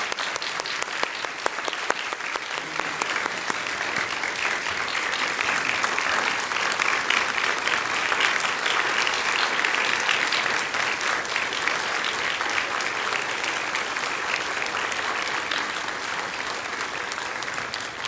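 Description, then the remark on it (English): A crowd at a Veterans Day celebration at Benson Grove Baptist Church applauds a group of gentlemen steadily for about eighteen seconds, a dense, even patter of many hands clapping that holds at a fairly loud, constant level throughout without cheering or talk. “If you'll give them another round of applause, please.”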